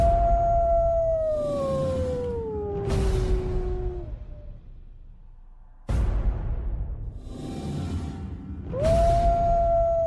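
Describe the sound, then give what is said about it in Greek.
A wolf howls in a long, sustained tone that slowly falls in pitch, then after a quiet pause a second howl rises in. The howls are loud, with breathy noise underneath. “Μέρος δεύτερο και όπως ακούτε, το στούντιο έχει γεμίσει παιδιά με λύκους.”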